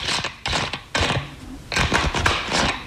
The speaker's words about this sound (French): Je m'amusais à visser puis dévisser le bouchon de ma bouteille d'eau pétillante.